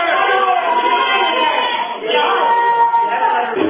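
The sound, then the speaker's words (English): A heckling crowd at a town hall meeting yells and shouts over one another in a steady, dense roar of raised voices, with no break across the few seconds; the drum beating and someone banging on a soup can are buried beneath the shouting. “You know, they're beating the drum and all that stuff. Somebody's banging on a soup can.”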